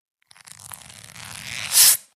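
A sheet of paper is torn in one slow, continuous rip that grows louder and ends in a sharp, crisp final tear, close up with no voices.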